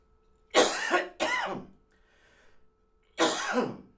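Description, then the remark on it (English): A loud coughing fit from someone getting over a cold: two harsh hacking coughs in quick succession, a short wheezy breath, then a third heavy cough. No one speaks. “Getting over a cold, and sometimes I have coughing fits.”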